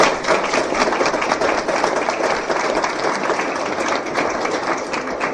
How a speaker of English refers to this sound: Well, I would say that I would agree with the gentleman, and I am very impressed by all those that came up, and I think this is a time for a round of applause for all that you came up.